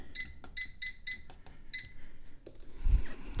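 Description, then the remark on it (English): A microwave keypad beeps five times at an uneven, button-pressing pace as its timer is set for 10 minutes, short bright electronic tones with soft clicks between them, followed by a low thump near the end. No one speaks. “Throw the tea bag into the cup, throw away the wrapper, put the lid on the cup, put the plastic tea bag holder on top of the cup to remind me that the tea bag is in there, and set the microwave timer for 10 minutes.”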